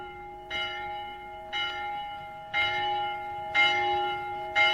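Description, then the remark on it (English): A town hall bell tolls five times at a slow, steady pace, each clang ringing out and humming on into the next, with no voices present. “Now, woken at last by the out-of-bed sleepyhead, Polly put the kettle on town hall bell.”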